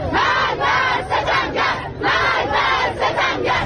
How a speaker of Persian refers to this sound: معترضان همچنان در خیابان‌ها علیه فساد و سوء مدیریت مقام‌های جمهوری اسلامی شعار می‌دهند